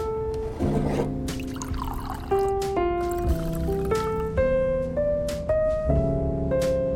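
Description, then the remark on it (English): Whiskey glugs steadily into a mug, the tone climbing in pitch as the vessel fills over several seconds, with small splashy bursts and no voices. “But instead, she smiles, extending the mug from him to pour into.”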